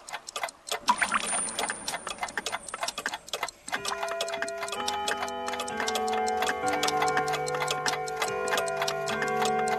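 A clock ticks in a steady, crisp rhythm throughout, and a few seconds in, sustained bell-like chimes ring out and hang over the continuing ticks. No one speaks.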